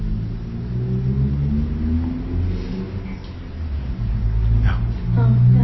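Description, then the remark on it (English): Road traffic rumbles past, a loud, continuous low engine drone that swells and fades as vehicles go by, rising again near the end. “The traffic is also a helpful friend in a way.”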